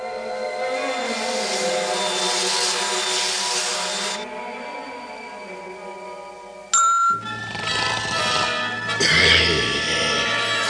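A small airplane's engine drones steadily with a buzzing, slightly wavering pitch for several seconds as it flies over the region to see where the water comes from, then cuts abruptly to a busier, rumbling mix of louder noise.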